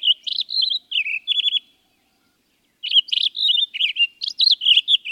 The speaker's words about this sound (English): A mile up the trail, in a stand of ponderosa pines, a Townsend solitaire lets loose its rush of notes.